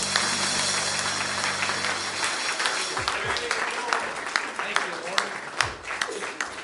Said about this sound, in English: give him a hand clap of praise this morning. Amen. He's worthy of it.